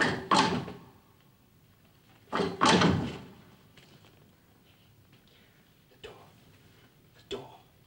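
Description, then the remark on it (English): A heavy secret-passage door mechanism, worked by lifting a lever, clunks loudly, then a second, longer grinding thud follows, trailing off into two small, sharp clicks near the end. “Take the secret passage. Dildano lifts a lever.”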